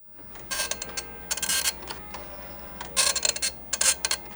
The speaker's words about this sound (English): An old printer clacks as it produces an image from the first version of Microsoft Paint.